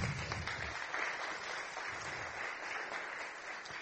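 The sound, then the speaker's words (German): A crowd of people at a church service applauds a newborn guest, a reverberant, steady wash of many hands clapping together at moderate volume for a few seconds. “Kleinen Applaus für ihn.”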